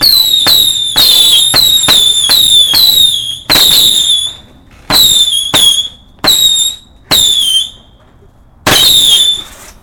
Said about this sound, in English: One ring of 24 crackers about to be lit.